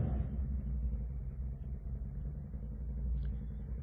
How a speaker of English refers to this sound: I think I could preach louder than that motorcycle if I need to.